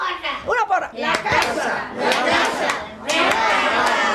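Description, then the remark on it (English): A loud shouted cheer from a resident for the house during a house meeting, a voice yelling with rising, strained pitch, followed by more excited shouting amid lively noise with scattered claps. “One of the residents breaks in with a cheer for the house.”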